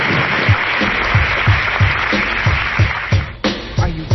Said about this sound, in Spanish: Entonces, si están de acuerdo, pues vamos a manifestarlo con un fraternal aplauso y que estemos que tan contentos con nosotros en esta ocasión.